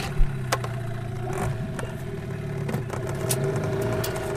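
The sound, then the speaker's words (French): A boat's motor engine drones steadily on the Paraná river near Rosario, Argentina, a continuous mid-pitched hum with a few brief knocks and splashes, and no voices. “Nous embarquons sur le bateau de Federico”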